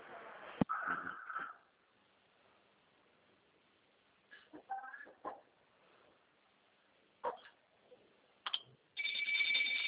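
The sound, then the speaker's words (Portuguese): A telephone starts ringing at the very end, a bright steady electronic trill over a thin, band-limited line. Before it come a short burst of rustling noise and a few faint scattered sounds. “Tá bom, só um minutinho também que eu vou atender o telefone aqui rapidinho, tá?”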